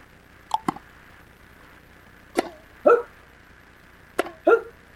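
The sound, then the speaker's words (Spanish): Sharp strikes of a small yellow or greenish tennis ball with a racket ring out three times a couple of seconds apart, each followed closely by a short voiced grunt, like a rally in a tennis match. “Sí, estamos hablando del tenis, amigas y amigos.”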